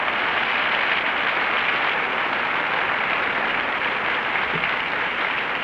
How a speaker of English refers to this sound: Well, you applauded anyway.